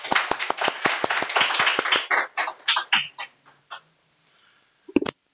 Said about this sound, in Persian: اگر اونا رو بذاریم کنار، میتونیم بهای نظری این کارو کردن و به پاس این شجاعت که این حصر رو شکسته یه تشویقی بدم.